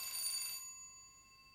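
A doorbell of the apartment next door rings once with a bright, buzzy metallic tone that cuts off after about half a second, leaving a steady high ringing hum that slowly fades. No one speaks.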